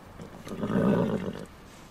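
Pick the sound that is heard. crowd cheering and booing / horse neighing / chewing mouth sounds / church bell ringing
horse neighing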